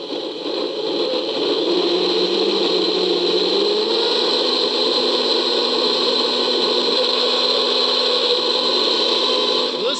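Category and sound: household object, blender running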